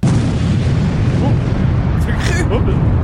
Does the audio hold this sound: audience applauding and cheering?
no